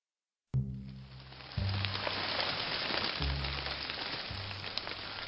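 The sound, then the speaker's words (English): Steady rain pours down in a continuous dense hiss, starting abruptly and holding loud and even throughout, with a low droning hum shifting underneath. “Gassed from head to toe, I trudged back to the mouth of the cave and out into the rain.”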